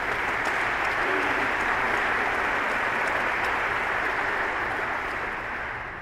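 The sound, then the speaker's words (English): A crowd claps steadily in a sustained round of applause, dense and fairly loud throughout, tapering slightly at the end, with no speech over it. “So let's give Nathan a round of applause for putting all that together.”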